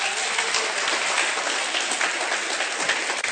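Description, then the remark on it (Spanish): An audience at a congress applauds a committee member as he is introduced. A dense, even wash of many hands clapping at once, loud and sustained for the whole few seconds with no voices over it. “Un saludo y un aplauso para él, por favor.”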